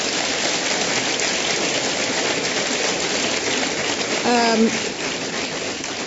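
Steady, dense clapping from the audience at a meeting of Inform and the Commonwealth Club fills the whole stretch at an even loudness, with a brief tonal voice-like sound rising over it near the end.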